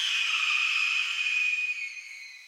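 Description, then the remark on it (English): A red-tailed hawk gives a single long, raspy, high-pitched scream that holds steady and slowly fades, loud with no other sounds around it. “And here's a red-tailed hawk.”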